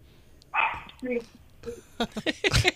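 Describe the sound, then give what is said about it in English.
A dog barks excitedly: a few separate yelps at first, then a quicker burst of sharp barks packed together toward the end, excited by hearing talk about food. “My dog is getting so excited that I'm talking to people, talk about food, and my dog is excited.”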